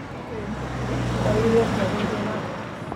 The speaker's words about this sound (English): We found out that we can hear a lot of car engine rumbles and a lot of other different kind of noise, because these the auditorium where we did all the recording, it doesn't have any soundproof door that cover the outside part.